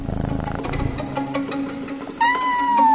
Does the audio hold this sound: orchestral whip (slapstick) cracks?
no